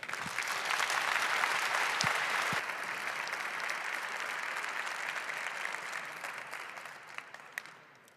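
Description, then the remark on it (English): Sustained audience applause welcoming speakers to a talk about Intel Management, a dense wash of many hands clapping that holds steady for several seconds, then gradually thins and fades out with a few last scattered claps. “All right, please welcome them with a big applause.”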